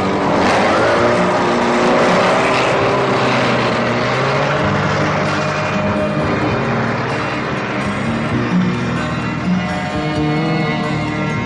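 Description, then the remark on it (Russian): A car engine roars steadily as the vehicle drives behind another car, loud, with a dense rumbling drone and rising engine tones holding for the whole stretch, no voices. “Говорят, у парнишки движок классный. Он же за нами едет.”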